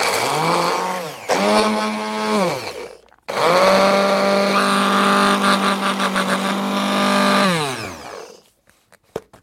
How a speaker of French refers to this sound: J'ai pris une dizaine de feuilles d'ail des ours. Ça fait environ 25 grammes. Et on va les mixer avec un petit mixeur classique. Donc, on met à la fois les feuilles et les tiges. On peut tout mettre, quoi. Feuilles et tiges. Et c'est parti.